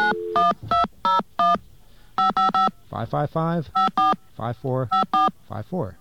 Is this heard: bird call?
no